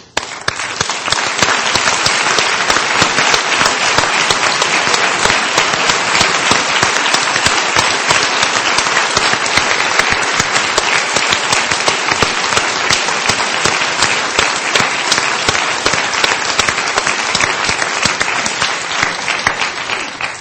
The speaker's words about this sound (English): And I would like to ask the Osler Fellows, members of our faculty who serve as mentors to all of the students, to stand for a moment of applause.